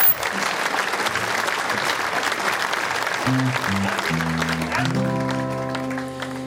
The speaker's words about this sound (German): Aber viel Applaus für diese Premiere.